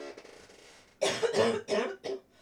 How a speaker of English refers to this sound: All right, we're back. Just had to have a good cough. You know how it is.